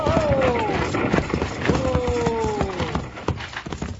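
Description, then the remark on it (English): Runaway horses pulling a coach gallop in a rapid clatter of hoofbeats while two long, loud neighs ring out over the pounding. “We gotta stop those horses.”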